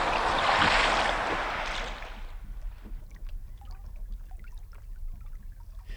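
A loud, rushing splash of oars through water for about two seconds as men row a boat ashore at Chesil Beach, between Weymouth and Bridport, then quieter lapping and scattered drips as the boat glides on. No voices.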